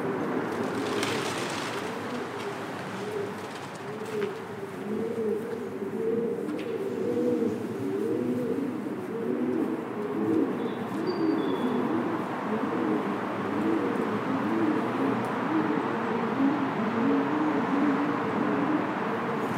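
Several pigeons nestled in a gap between a bridge and its wall at Abbey Park Road coo continuously in low, overlapping, throaty bursts, fairly loud, heard while passing under the bridge on a river ride, with a steady rumble of background noise and a brief rustle near the start.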